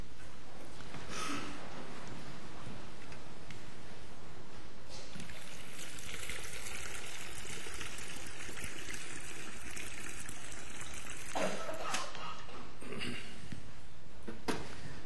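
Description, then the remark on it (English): Water is poured steadily into a baptismal font during a church baptism service, a continuous splashing trickle with a few louder gushes along the way, with no one speaking. “Please join me at the thanksgiving over the water.”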